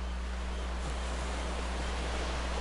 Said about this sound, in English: Hear the rhythmic ebb and flow of the waves as they caress the shoreline.